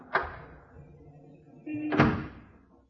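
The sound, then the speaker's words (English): A door handle clacks sharply, followed by a lingering rattle, then a brief creak and a second louder knock as unlocked French doors from a balcony into a living room swing open, with no voices. “Now then, French doors to her living room. Hmm? Conveniently unlocked, too.”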